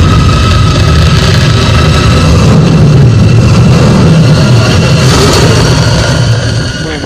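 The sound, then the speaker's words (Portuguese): The Batmobile's engine roars loudly and steadily for several seconds in a Batman film, a deep rumble with a strong low growl and no voices, easing off slightly right at the end. “Mano, o motor roncando depois e... O Batmóvel, ele é previsto ao longo do filme todo, mas porra, ele aparece, moleque, tu fica, caralho, agora vai, moleque.”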